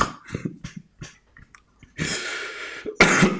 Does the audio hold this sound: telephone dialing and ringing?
no